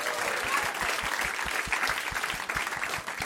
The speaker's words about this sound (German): Ein großer Applaus für Jenny. Und dann ein großer Applaus für unseren Hund.